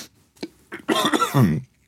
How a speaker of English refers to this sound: Excuse me, I've had this awful cough recently.